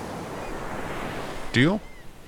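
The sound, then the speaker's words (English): Small ocean waves wash gently onto the shore in a steady, soft hiss, and a brief honking bird call breaks through near the end. “No, not that one. Those are just ankle slappers.”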